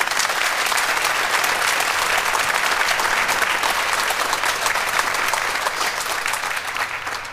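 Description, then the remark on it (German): Steady, dense applause from an audience in Munich for Schalke 04 sports director Peter Knebel fills the whole stretch, loud and continuous with many hands clapping at once, tapering only slightly near the end. “Schönen Gruß aus München und dicken Applaus für Peter Knebel.”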